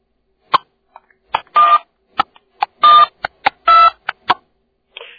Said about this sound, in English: What I did there is that I depressed the center button, and it'll dial out DTMF tones.